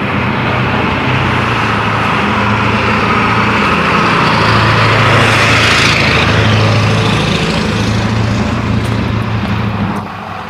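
road traffic passing by

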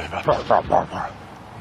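dog barking

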